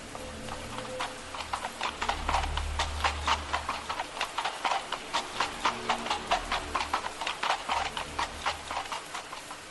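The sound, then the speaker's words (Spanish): A horse gallops outside a house in the early hours before dawn, with a steady, rhythmic pounding of hooves on hard ground, moderately loud, continuing throughout with a low rumble underneath early on. “A la tercera noche del suceso, ya de madrugada, se escuchó el galopar de un caballo fuera de casa.”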